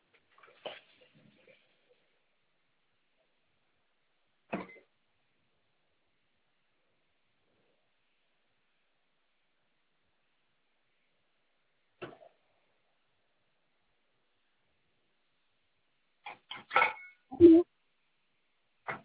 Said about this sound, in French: Oui, je vous entends faire la vaisselle. Excusez-moi, je suis en train de faire la vaisselle.